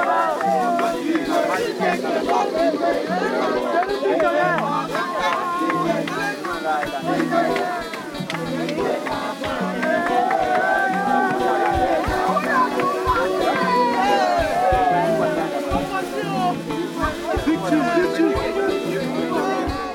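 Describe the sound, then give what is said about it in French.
A lively crowd of adults and children celebrates with dancing and singing on the deck of a boat arriving at Lampedusa at sunset. Many voices overlap in excited chatter and calls. The sound is dense and steady for the whole stretch. “on arrivait, il y avait Lampedusa en arrière-plan, le coucher de soleil, les dauphins, et puis un moment de joie et de danse et de chant sur le pont du bateau.”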